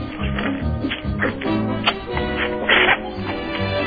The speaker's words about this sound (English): Okay, I'm about to bite into my chicken right now. It has reached a cooling point to where it's very tasteful. Would you like to listen to me have a chew? Sure, go ahead.